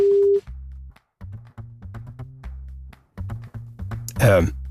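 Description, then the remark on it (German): A telephone busy signal on a call to a line that is busy, sounding as a low, steady tone repeating in short on-off blocks, fairly loud, ending in a brief harsh burst of noise. “Wenn User Busy ist, dann ist er gerade belegt.”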